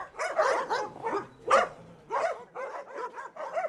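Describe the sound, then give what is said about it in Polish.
Several dogs belonging to a woman owner bark in quick, overlapping bursts, some yipping and higher-pitched, forming a continuous clamor throughout with no one speaking. “Nasze jest dążenie do tego, żeby odebrać tak naprawdę pani te psy.”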